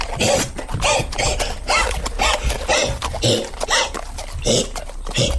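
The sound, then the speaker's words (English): A person vocally imitates a horse named Tony wheezing and coughing as if choking on something, producing a series of rough, raspy bursts in an irregular rhythm, fairly loud throughout. “He starts coughing more and more aggressively.”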